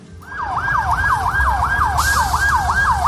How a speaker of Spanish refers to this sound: Bueno, cuando recorres 60 kilómetros hacia el sur, en las faldas del Atlas, llegas al epicentro del terremoto. Por una carretera mal asfaltada, cerca de Amismis, solo pasan ambulancias.